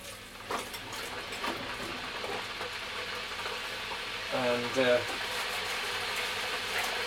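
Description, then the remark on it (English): A steady rushing hiss of an electric kettle heating water for a cup of coffee runs throughout, with a brief murmur of voice near the middle. “I've got to get the water in the kettle.”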